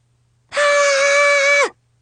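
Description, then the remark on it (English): A single loud, high-pitched scream holds one steady pitch for just over a second, then dips sharply as it cuts off. Silence comes before and after, with no talking. “That was me screaming.”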